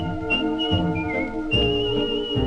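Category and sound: human body sound, human whistling a tune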